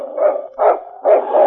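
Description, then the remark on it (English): Yukon King, the lead sled dog of the radio drama Challenge of the Yukon, barks loudly in a few quick, throaty bursts, three or so, with brief gaps between them and no talking. “It's Yukon King, swiftest and strongest lead dog of the Northwest, blazing the trail for Sergeant Preston of the Northwest Mounted Police in his relentless pursuit of lawbreakers.”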